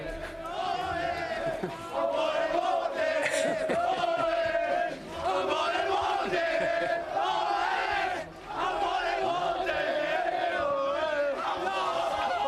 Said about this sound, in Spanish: Los que gritan son los jugadores del Unionistas de Salamanca, rival del Real Madrid en la Copa. A por el bote es lo que chillan en este momento en el interior del vestuario.